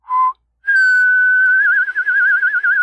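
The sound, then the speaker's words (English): Someone whistles a short note, pauses briefly, then holds a long, higher whistle that starts steady and breaks into a fast warbling vibrato. It is fairly loud, with no talking. “All right, fine, but the whistling horse stays.”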